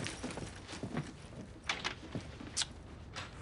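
A drawer is handled and papers are pulled from it: close, irregular knocks, scrapes and soft rustling, with a few sharper clunks and a louder bump at the very end. No one speaks.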